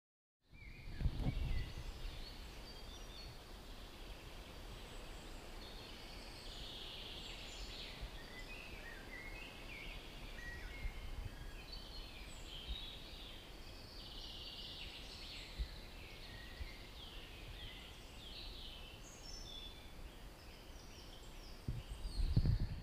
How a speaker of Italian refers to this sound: Siamo in mezzo alla natura. Se riesco, voglio farti sentire il canto degli uccelli.